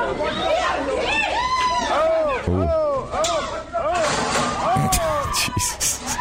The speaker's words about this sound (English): Then a guy that was working at the Waffle House approached the guy, and they brawled. Here's what it sounded like.